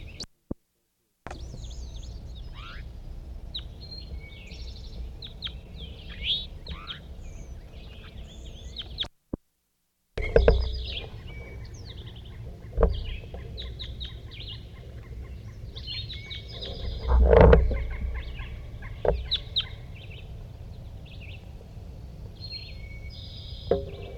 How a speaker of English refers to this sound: Recording with our crossbill in the same position as before. Definitely a large race.